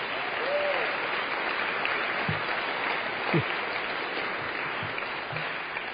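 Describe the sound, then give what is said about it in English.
An audience at an Alcoholics Anonymous meeting claps steadily for about six seconds, a dense, even wash of many hands at a constant loudness, with a brief faint vocal call and a few murmurs mixed in. “I don't want you to clap for them.”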